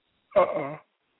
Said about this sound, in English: What the hell? Are you all right? Yeah, no, I was just yawning, yo.